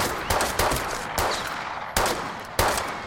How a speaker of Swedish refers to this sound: Men du, vi behöver inte överdriva det här. Vadå, vi måste ta i lite? Du sa det var skottlossning. Ja, men det räcker ju.